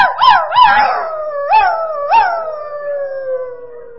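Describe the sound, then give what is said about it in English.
A puppy, the youngest dog of a pack, points her nose to the moon and howls, starting with a few short rising yelps that break into a long, high, wavering howl slowly sliding down in pitch. No one speaks. “And then the youngest dog, which was really a puppy, would point her nose to the moon and then she would begin to howl.”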